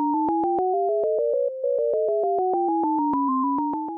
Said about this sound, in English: Each ear is getting an alternation between high beeps and low beeps. But together you're hearing all of the high beeps as a unit on one side, probably on the right, and all the low beeps on the other side.